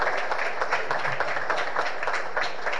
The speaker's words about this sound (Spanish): Ingeniero, por favor, vamos a hacer la entrega del segundo reconocimiento al señor Nelson Mendoza, presidente de DINAC. Un fuerte aplauso, por favor.